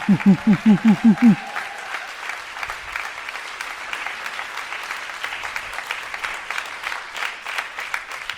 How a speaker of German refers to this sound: Einmal hier lang und es wird weiter applaudiert.